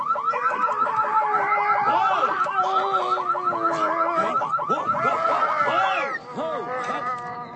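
A loud car alarm blares, cycling through rapid, repeating electronic warbles and whoops without pause, with a slight drop in level just before the end.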